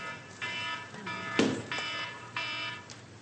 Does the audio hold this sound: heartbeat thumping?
no